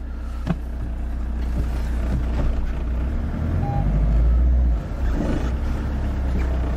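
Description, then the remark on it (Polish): A car's engine rumbles steadily as the vehicle creeps forward, with a sharp clunk early on and faint mechanical grinding as first gear is gently forced in without the clutch pressed and without pressing the accelerator. “Delikatnie próbuję wrzucać jedynkę, tak jakbym chciał ją wbić, ale no oczywiście jej wbić nie mogę.”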